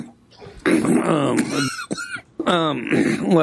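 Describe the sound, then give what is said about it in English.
A loud run of deliberate, exaggerated coughing and throat clearing in roughly three voiced, raspy bursts with short gaps between them, performed alone with no talking, as a person practices a trademark cough. “I'm working on this trademark cough. What do you think?”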